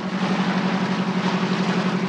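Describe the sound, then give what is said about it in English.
The engine of the Persephone, the log-salvage boat from The Beachcombers (the real-life log-salvage boat John Henry), runs with a steady, droning hum, a low throbbing tone under a broad mechanical roar, holding constant and fairly loud throughout, with no voices. “And then, of course, there's the amphibious star of the show. Fans, you know the engine sound.”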